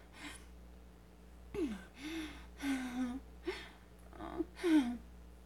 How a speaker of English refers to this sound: Breathing heavier.